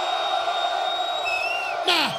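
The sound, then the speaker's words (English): A crowd, with the men called on to make some noise, cheers and shouts in a steady, dense roar, with piercing whistles drifting over it and a sudden loud whoop bursting out near the end. “Now, to all the brothers in the place that don't give a damn about what them ladies talking about, cause you just trying to get your man, make some noise.”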